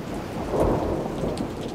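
Steady rain pours down with a dense hiss, low rumbling thunder swelling underneath around the middle. Constant, with no voices.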